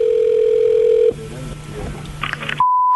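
A steady, loud telephone line tone at the start of a phone call to a clock repair shop hums for about a second, then cuts to faint line noise with a few brief electronic blips before a higher, clear beep tone finishes.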